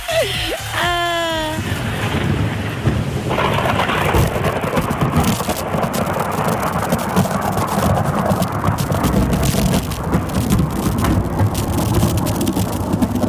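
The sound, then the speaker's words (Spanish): Heavy rain pours steadily while deep thunder rumbles and rolls through, loud, with a brief bird-like chirp at the very start. “Son así más o menos los truenos que escucharon ustedes.”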